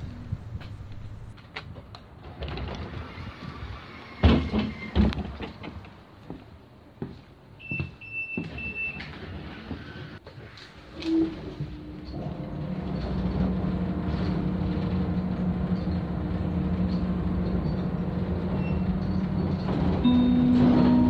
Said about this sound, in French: Je grimpe dans le bus qui me conduit vers le centre historique, inscrit au patrimoine mondial culturel de l'UNESCO.